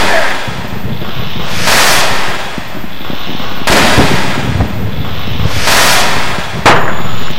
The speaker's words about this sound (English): Flame-retarded plumber lit a match under three watermelons, which were blown to pieces by an illegal firework called an M80.